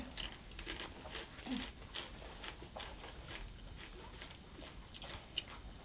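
Crunching of chocolate mini eggs, a steady run of quick, crackly bites and chews that carries on for several seconds at a fairly soft level, with no one talking.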